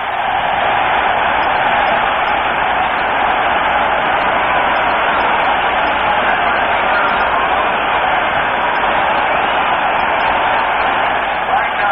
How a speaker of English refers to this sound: Tobin Roach doing a great job for the Lions here this afternoon, and he gets a well-deserved round of applause as he leaves the playing field.